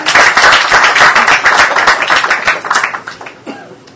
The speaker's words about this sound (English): I'm going to give him a big round of applause.